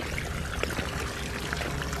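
Steady rush of water splashing and pouring in an outdoor educational fountain at a science park in Šabac, Serbia, a fountain that demonstrates solutions of quadratic equations; a continuous wash of sound with small bright droplet splashes and no voices.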